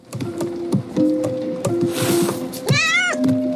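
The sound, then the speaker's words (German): A cat in an animated film gives a clear, drawn-out meow that rises and falls near the end, fairly loud, over a busy background of soft taps, clicks and steady humming tones. “Allen voran eine Katze, die bei einer Flut in einem Boot mit anderen Tieren ums Überleben kämpfen muss.”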